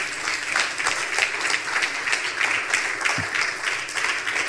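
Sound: applause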